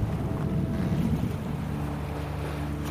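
Sea waves wash in a continuous, low, rumbling roar with some wind-like noise and a faint steady hum underneath. No one speaks.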